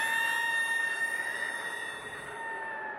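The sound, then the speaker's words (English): A chill wind whistles through the shamrocks on a cold night, 15 degrees below, with slanting rain, in a steady, sustained high tone with layered harmonic overtones, holding nearly unchanged for about three seconds at moderate loudness, with no voices. “I don't know if you heard that, Diona, but it sounded to me like a chill wind whistling through the shamrocks.”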